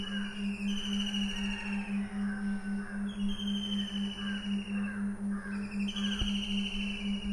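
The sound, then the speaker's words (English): A busy chorus of many birds calling and chirping over one another, continuous and lively, with a steady low hum running underneath throughout. “All these birds communicate right now by making sounds.”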